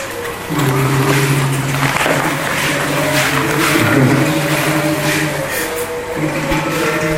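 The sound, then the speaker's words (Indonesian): The engine of a tongkang barge, a boat used to haul timber, in Irian, drones steadily at a low pitch, loud, with a constant rumbling hum that dips slightly midway, layered over a wash of rushing background noise. “Itu kapal tengkoang.”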